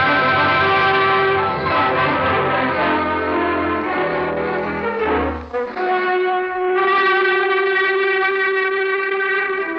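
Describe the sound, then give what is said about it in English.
A waiting metro train's warning signal in the Maikovsky station of the Moscow metro, signalling workmen to clear the track: a loud, sustained tonal blare with rich harmonics, wavering briefly midway before holding steady again for nearly ten seconds, with no voices. “Standing in the Maikovsky station of the metro under the heart of Moscow, a waiting train signals to workmen in the subway to clear the track.”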